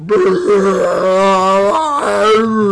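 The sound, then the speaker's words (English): A voice imitates a former teammate's long, loud belch at practice, a sustained low, croaking tone that wavers in pitch and briefly breaks before rumbling on for nearly three seconds. “She would just belch like crazy, and you just look at her like, wow, that came out of you?”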